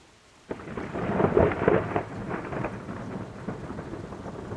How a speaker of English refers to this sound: and today, yes, there's a summer storm outside. We've had very high temperatures, and now the temperature's gone down, and we've got wind, and now we've got this storm, so I'll just have to crack on.